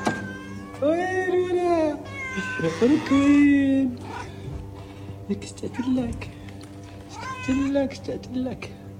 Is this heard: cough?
no